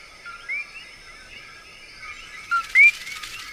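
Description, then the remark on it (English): Coqui frogs, tiny thumbnail-sized frogs in a forest, calling in a steady chorus of high, whistle-like chirps, with one louder sharp rising two-note call standing out near the end over a faint background hum. “But it's actually a tiny frog called the coqui.”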